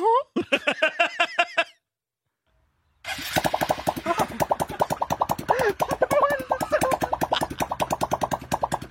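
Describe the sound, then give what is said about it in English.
A balloon stretched over a car tailpipe blurts out rubbery, farting flaps, first a short burst, then a pause, then a long, loud run of rapid sputtering pulses over the rumble of an idling engine. “stretched it over the top of the tailpipe of an automobile”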